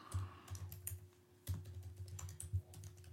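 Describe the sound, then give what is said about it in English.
Rapid, uneven tapping of keys on a computer keyboard as a person searches the internet, with a short pause midway before the clicking resumes. A faint low hum runs underneath, and no one speaks. “Here I'm typing.”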